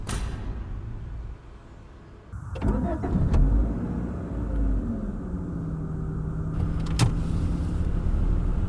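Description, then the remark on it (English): A car interior: a steady low engine hum, then a sharp clunk and rising rumble as the car starts moving, with a whirring motor like a power window and a brief click near the end. “I thought you might want to do that, so I got a car ready.”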